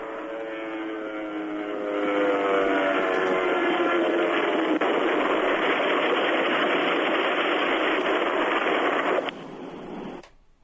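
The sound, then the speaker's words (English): A plane crashing, heard over a phone call: a loud, steady engine roar with a droning tonal whine swells after a couple of seconds, holds, then abruptly cuts off near the end. No one speaks. “That was a guy that called from a plane, and I think it crashed. Yeah, it sounded like it crashed.”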